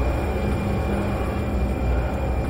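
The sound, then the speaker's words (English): A train of 1,000 tons roars past, a loud, steady rumble of heavy wheels on rails with a faint high whine riding over the din, and no voices. “as I watched the train thunder by the place where Trick used to be”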